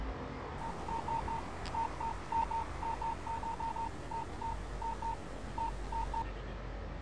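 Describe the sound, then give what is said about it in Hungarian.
A phone keypad beeps as someone types out an SMS text message on a Ramazan System 2000 phone, a long run of short electronic tones in quick, uneven bursts over a steady background hiss, with no one talking. “Akkor küldök az én telefonomról, te állat.”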